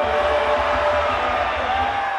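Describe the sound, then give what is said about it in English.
A large crowd screams one name together on a count of three, a loud, sustained roar of many voices in unison, steady for about two seconds. “On the count of three, just scream that one name.”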